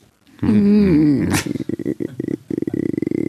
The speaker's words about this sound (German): Und dann geht da der Klassiker wieder. So ein Hund.